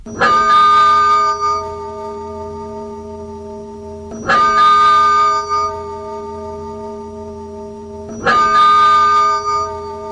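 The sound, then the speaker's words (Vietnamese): Cathedral bells toll three times, about four seconds apart, each strike loud with a rich, lingering hum that rings on until the next one. No voices are heard. “Ngay khi chuông thánh đường bắt đầu đổ từng hồi, cùng lúc từng loạt đại bác khai hỏa thông báo cho thần dân toàn vương quốc biết rằng hoàng thượng đã băng hà.”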